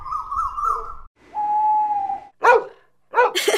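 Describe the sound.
A human voice mimics animal calls: a wavering call imitating a cuckoo, then a long steady hoot imitating an owl, followed by a couple of short, loud dog-like barks near the end.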